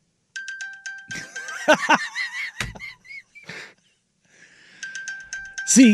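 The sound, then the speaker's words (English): A phone-finder locator alert for a misplaced phone rings in a repeating electronic chime, sounding once at the start and again near the end, with someone talking loudly in between. “And then I get like 8 more of those rings.”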